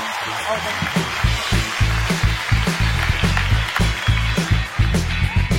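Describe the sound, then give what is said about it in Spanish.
A crowd applauds steadily during the Papelitos del Público segment of Hablando Huevadas, a dense wash of clapping with a rhythmic low thumping pulse running underneath and voices mixed into the roar throughout. “Señores, y que siga ese aplauso, que siga creciendo, porque esto es Papelitos del Público por Hablando Huevadas.”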